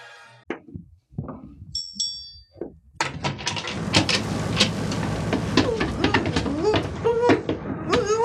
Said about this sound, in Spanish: La puerta ha sido abierta. La puerta del camarote donde Diana Morris, la hermosa y rubia agente internacional que desplegará tanta actividad y astucia, está prisionera.